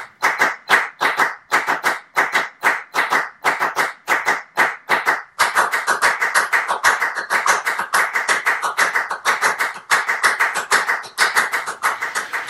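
Crisp hand claps in a repeating rhythmic pattern, first a single line with short gaps, then a second clapping part enters and interlocks for a dense, steady, overlapping pulse.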